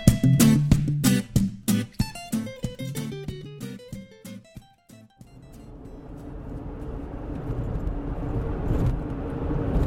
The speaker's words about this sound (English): It's pretty much exactly 11 o'clock at night, and as you can no doubt tell, I'm in my car. And the reason I'm in my car talking to you this late at night is because I am driving back from having just given a talk at a camera club.